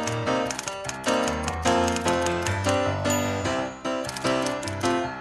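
Rapid typewriter keys clack in rhythm over lively orchestral music, the theme music of an NPR letters segment, with a carriage ratchet sliding through, all loud with no one speaking.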